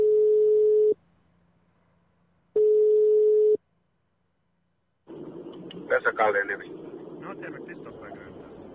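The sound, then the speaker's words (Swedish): Two long, steady telephone ringback tones separated by a pause as a call is placed to a man to ask why he bought a building, followed by a man's voice speaking Finnish over a muffled phone line. “Jag ringer upp honom och ställer frågan varför han nu har köpt byggnaden och tomterna runt omkring”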